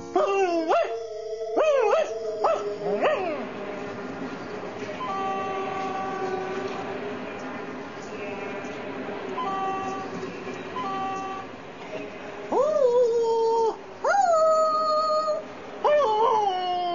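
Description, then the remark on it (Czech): The dog Žeriko whines in several high, wavering cries, some rising and falling in pitch, with a steady droning rumble like a train running underneath throughout. “A ty, Žeriko, přestaň vít, počurávat sloupy a upaluj.”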